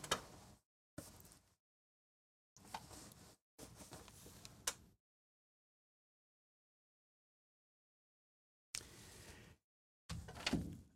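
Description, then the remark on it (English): Someone readjusts their position in a chair: a series of short rustling and creaking bursts separated by silent pauses, with no one speaking. “So, I'm sorry, I had to readjust myself in the chair here a little bit.”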